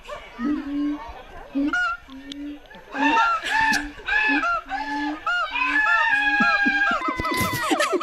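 A monkey sound effect plays alongside a man imitating a monkey, overlapping hoots and chattering shrieks mixed with the man's low, repeated 'ah' call, loud and continuous throughout.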